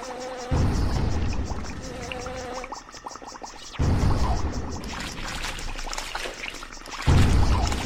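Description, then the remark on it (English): A steady, hissing rush of gushing water runs throughout, swelling loudly in several bursts with a bubbling, splashing texture, like a geyser spouting in a video game level. “We got a geyser there.”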